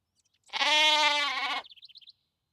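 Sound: sheep bleating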